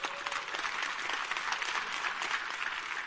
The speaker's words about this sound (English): Now, that's worth a hand clap, praise.